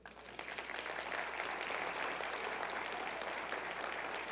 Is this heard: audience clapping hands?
yes